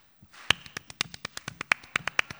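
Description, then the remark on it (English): A quick, steady run of hand claps, about a dozen in two seconds, made with a little space between the hands and clapping on one side then the other, louder and softer hits alternating as the claps swing back and forth. “You clap on this side, you clap on that side. Back and forth.”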